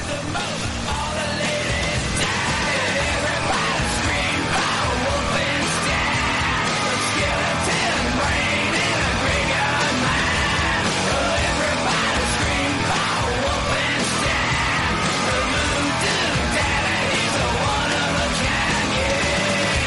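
A loud, dense rock song plays throughout, with harsh screamed vocals shouting over heavy distorted guitars and pounding drums at a steady driving pace.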